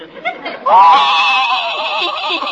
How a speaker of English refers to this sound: See you later, Doc. I can't stand to see a horse cry.